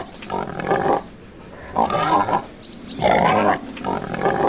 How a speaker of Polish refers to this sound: W listopadzie, w grudniu właśnie, okres tak zwany huczka. Jest dużo przepychanek, gonitw, no i też fuczenia, kwiczenia, chrumkania. Tak jak na tym nagraniu z płyty … Leśnego Studia Filmowego.